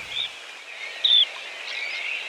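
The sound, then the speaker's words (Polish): A dunlin gives a short, buzzy high whistle over a steady hiss of surf or wind, with fainter thin calls trailing afterward. “Proszę bardzo, biegus zmienny.”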